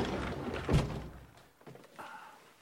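A single solid thunk of a door swinging shut, fairly loud, followed by some faint rustling and a brief higher tone.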